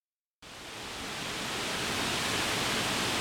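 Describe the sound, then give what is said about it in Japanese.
The Senjuin waterfall's steady, dense rush of water starts abruptly after a brief moment of silence and continues unbroken, fairly loud and close, with no voices. “さらに近くにはきれいな滝が流れていて、隠れて暮らす内室や2人の姫の心を癒す場所にもなっていたんでしょうか。”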